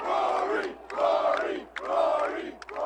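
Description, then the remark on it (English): A large golf crowd at the Masters tournament roars and cheers as a player wins, loud and sustained, rising in three swelling waves with brief dips between them and no single voice standing out. “Now the crowd celebrated.”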